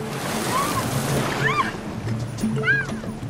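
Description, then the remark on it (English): Rushing river rapids churn and splash steadily around a small inflatable canoe, with water splashing in and rocking it from side to side, and a few brief, high chirping calls rising above the roar. “Water splashes in, and they're rocked from side to side.”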